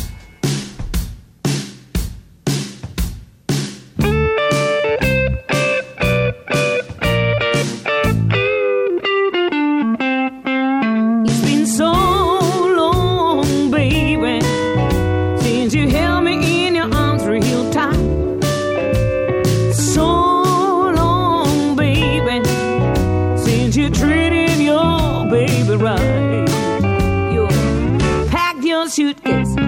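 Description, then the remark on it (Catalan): Loud, full band music from a trio of guitar, bass and drums with percussion: steady driving drums under distorted electric guitar with an electric guitar solo, briefly thinning out before the whole band crashes back in and plays on. “bateria, i percussions el broden amb mans d'or.”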